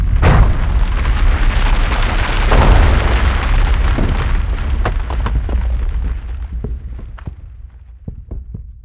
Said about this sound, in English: Suddenly, came the loud crashes of the boulders hitting the earth.